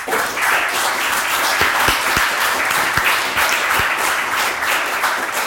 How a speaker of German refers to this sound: Vielen Dank schon mal vorab an die Tabletop Freibeuter und unser Haus in Bergedorf. Denn die veranstalten das Ganze. Hier haben wir einen fetten Applaus.